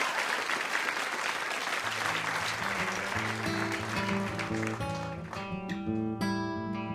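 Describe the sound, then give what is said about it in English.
A crowd at the NPR show Ask Me Another claps loudly for guests Stephen Thompson and Ian MacKay in a dense, steady burst of applause; partway through, sustained musical tones begin and grow as the clapping continues and then thins out. “One more round of applause for NPR Stephen Thompson and Ian MacKay.”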